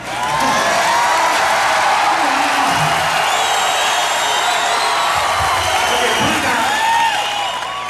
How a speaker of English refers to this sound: Hold up the applause sign one more time, all right?